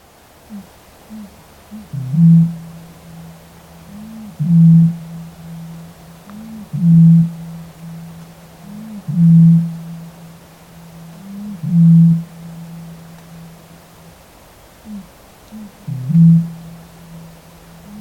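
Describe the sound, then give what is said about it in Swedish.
A Eurasian bittern booms six times, each a deep, hollow, foghorn-like note at a steady pace, a few seconds apart, with a low hum lingering between calls over faint background hiss. “Rördrom. Låter som när man blåser i en flaskhals.”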